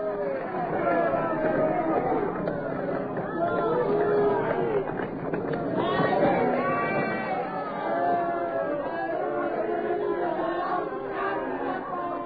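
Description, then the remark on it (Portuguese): A large crowd shouts and clamors continuously as a man is whipped before them, many overlapping voices forming a loud, dense, deafening roar that holds steady for the whole stretch without pause. “Diante da multidão, Jesus é açoitado impiedosamente ao som dos berros ensurdecedores do povo.”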